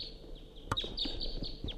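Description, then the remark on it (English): Several short, sharp crossbill calls, all type 2, ring out in a loose, irregular series of high, downward-slurred chips over a steady background hiss, with no one speaking. “Quite a few wire crossbills coming around.”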